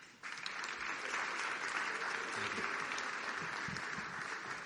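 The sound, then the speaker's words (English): Sustained crowd applause for a group of contestants fills the whole recording, a dense, steady wash of many hands clapping after a brief quiet start, with no voices standing out. “And keep the applause going for that group.”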